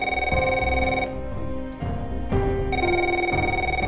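A telephone rings loudly, its electronic bell tone pulsing in steady bursts with brief pauses between them, with no voices over it.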